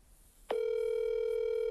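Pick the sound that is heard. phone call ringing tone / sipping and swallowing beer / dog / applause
phone call ringing tone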